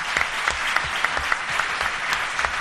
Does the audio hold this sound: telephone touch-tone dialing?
no